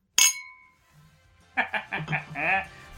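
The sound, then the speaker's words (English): A single bright clink of glasses in a toast rings out and hangs briefly in the air, followed after a short pause by voices talking or laughing. “Cheers. Boom. Cheers. We should clink, right?”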